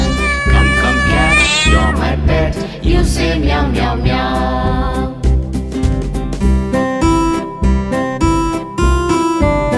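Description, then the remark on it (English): Several cat meows ring out over a loud, busy musical backing, the drawn-out cries rising and falling in quick succession near the start before the music carries on. “Come, come, cat, you're my pet, you say meow, meow, meow.”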